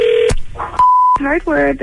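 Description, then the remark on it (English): A couple of short electronic telephone keypad tones, one a clean steady beep, separated by sharp clicks, followed by a voice speaking, as someone dials a hardware store to make a prank call. “It's our prank call, the phone jibba.”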